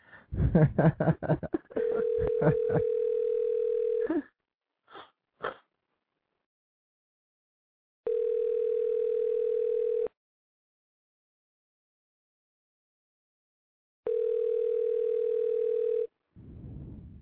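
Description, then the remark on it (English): After a phone call hangs up, a steady, mid-pitched telephone dial tone sounds in three separate two-second bursts with long silent gaps between, preceded by brief clattering and scraping noises at the start. “It just hung up, so let me try again.”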